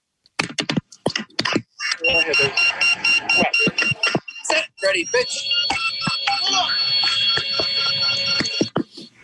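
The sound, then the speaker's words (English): A rapid, evenly spaced electronic beeping from a ball, followed by a base buzzer's long, steady tone that holds for several seconds, with a few sharp clacks and a voice calling out at the start. “So the ball has that beep, beep, beep, beep, and the bass has a steady pitch.”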